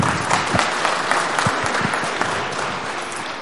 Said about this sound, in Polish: Możemy oklaskami, tak, powitać.